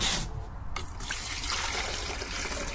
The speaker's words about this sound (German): Mit großem Ernst vollzieht er sein Ritual, füllt kaltes Wasser aus dem gelben Kanister in 2 Wasserkocher